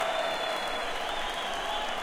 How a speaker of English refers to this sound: It's a true pleasure to play in Chicago to a crowd like this. Give yourselves a hand for making the music.